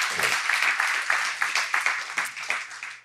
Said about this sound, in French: Oh, on peut applaudir. On peut applaudir le Seigneur.